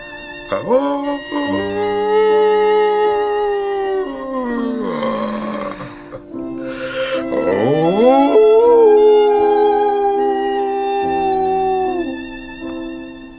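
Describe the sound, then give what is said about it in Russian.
A man hiding in the forest imitates a wolf, giving two long, loud howls that rise, hold and slide down, separated by a short breath, with steady sustained tones in the background. “я здесь по-волчьи научился выть. Хочешь, покажу?”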